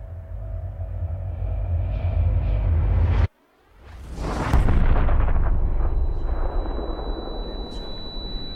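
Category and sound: impact, large explosion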